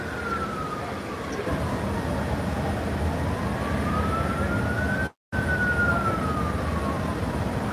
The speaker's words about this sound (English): They got an ambulance coming.